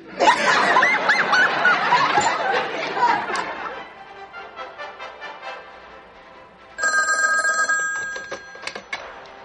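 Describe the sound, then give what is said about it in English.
A telephone rings on an outgoing call to a sister, one steady electronic burst near the end, following a few seconds of lively chatter and snickering laughter that fades into quiet. “I have to call my sister.”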